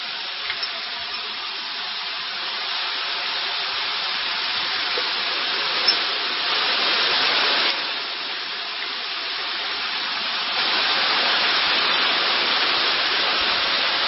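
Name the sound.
heavy rain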